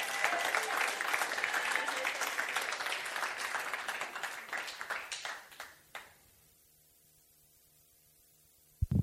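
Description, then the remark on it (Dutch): An audience applauds with dense, steady clapping for about six seconds, then the applause stops abruptly, leaving near silence with a faint low hum before a brief thump at the end. “Come on now, geef me een applaus, hij heeft het verdiend.”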